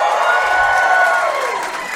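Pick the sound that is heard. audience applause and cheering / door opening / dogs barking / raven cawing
audience applause and cheering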